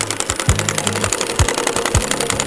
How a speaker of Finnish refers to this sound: Tämmönen 125 moottoripyörä.